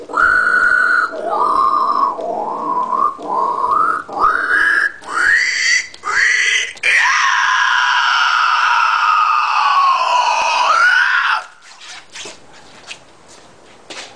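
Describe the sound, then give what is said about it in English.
A voice mimics a pig with a run of rapid, loud squealing oinks, then shifts into one long, harsh, rising screech like a pterodactyl cry before falling quiet with faint shuffling. “Pig cerulean, then pterodactyl, then that's it, guys.”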